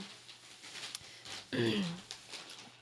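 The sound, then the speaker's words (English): A dog lets out a single short, whiny yelp, sharp and nasal with a quick rising and falling pitch, against faint background noise. “Yeah, my dog, he just, like, if he gets nervous, I don't know, or something, like, he just doesn't know what's happening, he just, like, barks.”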